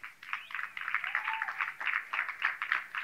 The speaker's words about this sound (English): But the reason there's a smattering of claps is because you know you haven't been doing it, even though I've been pounding it down your fucking throat for the last 3 years.